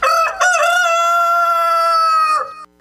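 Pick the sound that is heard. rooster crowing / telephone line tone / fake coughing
rooster crowing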